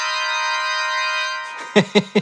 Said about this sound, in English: Let's hear the organ chord.